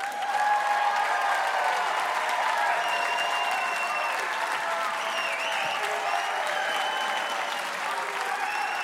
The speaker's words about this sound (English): We have a pretty smart crowd here at the Fitzgerald Theater, so we're going to do it by your applause and cheers.